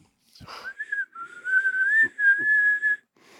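A person whistles one long, steady note at a fairly constant pitch for a couple of seconds, clear, with a few soft low thumps underneath and no talking.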